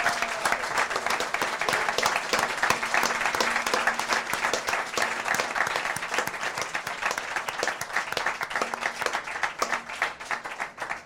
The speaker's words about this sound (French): Encore une fois, merci à vous. Un tonnerre d'applaudissements pour vous, pour tout le monde.